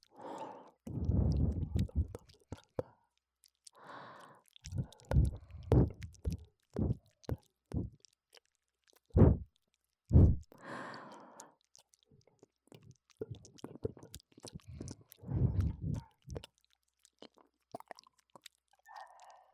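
Wet mouth noises of a moving tongue: tongue clicks, smacks and squelchy licking sounds in an irregular stream, mixed with soft, breathy exhales, the tongue tip almost touching an ear without contact. No speech.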